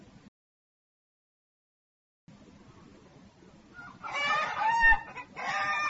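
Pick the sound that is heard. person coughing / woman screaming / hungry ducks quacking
hungry ducks quacking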